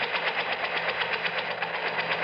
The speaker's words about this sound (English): Listen. Helicopter.